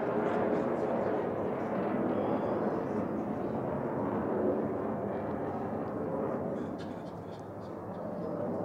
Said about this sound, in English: Right when the airplane comes. He's in a hurry.